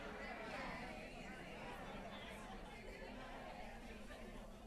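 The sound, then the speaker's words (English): An audience chatting all at once as members turn to the person next to them and tell them they're amazing, a dense steady babble of overlapping voices with no single speaker standing out, fairly loud and continuous throughout. “Matter of fact, why don't you look at the person next to you and say, wow, you're amazing. Go ahead and do that.”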